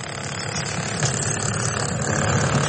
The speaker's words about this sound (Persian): شب خیلی دشوار در مناطق زلزله زده ترکیه و سوریه. گاه صدای امبولانس بلند می شود که جسد یا زخمی را انتقال می دهد، گاه هم صدای ماشین ها برای برداشتن آوارها فضا را فرا می گیرد.